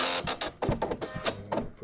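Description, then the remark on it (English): An electric typewriter with a clear plastic casing is powered on and runs its self-test: a quick series of mechanical whirring and clacking bursts, loud and uneven in rhythm, with a low motor hum between them and no voices. “Power on, the machine goes through a self-testing process.”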